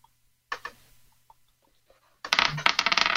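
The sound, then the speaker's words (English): Dice clatter and rattle across a tabletop in an attack roll: a sharp initial clack with a few scattered ticks, then a dense burst of rapid clicking and tumbling near the end, fairly loud. “I'm going to run up and take a swipe at her with my rapier. Okay. Roll to attack.”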